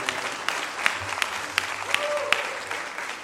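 Audience applause fills the space with dense, steady clapping from a crowd, a few sharper claps standing out, a brief tone rising in the middle, sustained for a few seconds.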